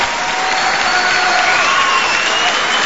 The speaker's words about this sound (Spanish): Estamos en San Nicolás, señores, uh-huh. Provincia de Buenos Aires. Sí, pueden aplaudir a San Nicolás si quieren.